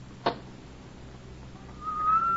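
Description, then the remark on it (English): After a single soft click, a thin, steady whistle rises out of a low background hiss and slowly grows louder, like a small jet of steam escaping a kettle. “A very gentle, soothing sound, like that of a small jet of steam escaping from a kettle.”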